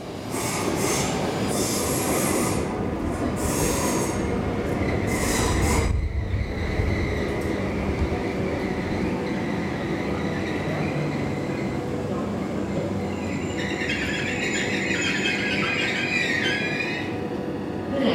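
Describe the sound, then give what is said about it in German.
A night train from Berlin rolls steadily along the rails into Malmö main station with a continuous rumble, then its wheels let out high, drawn-out squeals as it slows, loud, with no voices. “Und dann fahren wir auch schon über die Öresundbrücke, die Ostsee rechts und links von der Brücke und rollen in den Hauptbahnhof von Malmö ein, fast auf die Minute pünktlich.”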